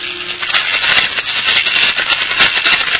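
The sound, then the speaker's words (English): A primitively geared induction coil, maintaining a steady current for a vacuum tube, runs with a steady, loud mechanical rattle, a dense stream of rapid clicks and buzzing that holds at an even level throughout, with no voices. “That's the primitively geared induction coil which maintains a steady current.”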